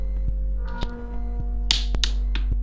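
A ruler taps on the edge of a table, giving a series of sharp, dry knocks at an uneven pace over a steady low hum, with no voices.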